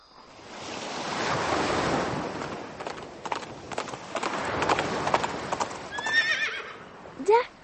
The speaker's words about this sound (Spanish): Señor caballo, hemos llegado al mar.